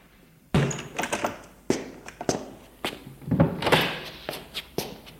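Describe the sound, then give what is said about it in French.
A front door opens with a heavy thunk, followed by several irregular knocks and clunks of handling and movement, with no voices. “La porte d'entrée vient de s'ouvrir.”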